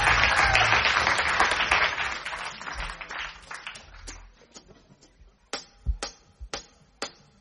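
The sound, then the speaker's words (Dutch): An audience applauds a band being invited onto the stage to play its new single, a dense, loud burst of many clapping hands that gradually thins out over a few seconds, ending with a handful of scattered, isolated claps. “Die nieuwe single, dan wil ik mijn liefdallig publiek vragen om ze een heel groot applaus te geven.”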